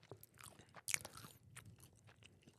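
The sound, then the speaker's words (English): A crisp bite into a crunchy, salty, slightly spicy snack dipped in blue cheese, with a sharp crack near the start, followed by several seconds of steady, wet chewing and crunching right up against the mic. “That's a good crunch right there.”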